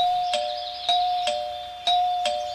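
A doorbell rung over and over by a parcel delivery man, five sharp chime strikes in quick uneven succession over a steady ringing tone, fairly loud with no voices.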